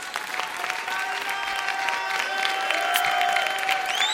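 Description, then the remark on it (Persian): Steady applause from an audience applauding a speaker fills the whole stretch, dense and even, with a few faint whistles or voices rising over the clapping near the end. “چقدر با حرفای من موافقید؟ منو تشویق کنید.”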